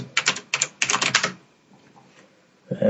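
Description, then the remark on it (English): Crisp typing on a Mac Mini computer keyboard in three quick bursts of rapid clicking during the first second and a half, then near silence before a brief low sound at the very end. “What Mac are you typing this on?”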